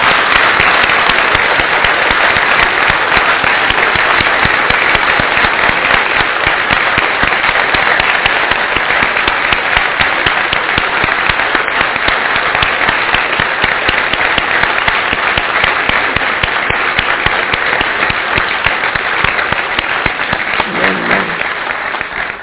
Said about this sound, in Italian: facciamogli uno di quegli applausi che fanno balzare le persone in piedi.